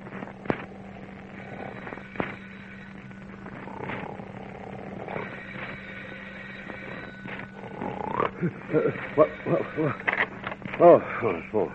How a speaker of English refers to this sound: Well, inasmuch as it's quite some time past Mr. Nixon's bedtime, the motor car tycoon is in bed, sound asleep. His mouth open, he snores energetically.